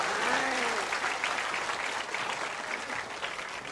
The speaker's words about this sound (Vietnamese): Xin một tràng vỗ tay thật lớn.